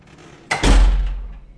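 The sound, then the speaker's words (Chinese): A door swings shut with a sudden, solid thud, its low boom lingering and fading over the next second. No voices are heard. “喂，你干嘛把门关了？”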